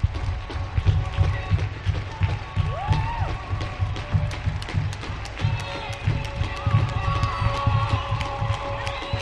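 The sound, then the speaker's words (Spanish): In Pamplona, sustained applause from many people clapping steadily, with cheers and voices mixed in, while sirens of the Guardia Civil, Policía Nacional, Policía Foral and Policía Municipal wail, rising and holding their tones over the clapping throughout. “En Pamplona, aplausos y sirenas.”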